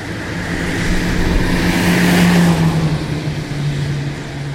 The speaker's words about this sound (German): Auf einer Autobahn tönt es so.